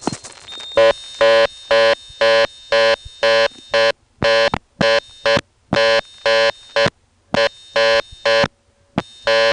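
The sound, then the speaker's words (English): A telephone reorder tone heard after a TSPS operator trunk goes on hook at the end of a call: a harsh, buzzy dual-pitch signal pulsing rapidly on and off in short, evenly spaced bursts, loud and steady with no talking. “Now, in most steps, that cuts you off to dial tone, but as you've heard on the last two calls, here it goes to a reorder.”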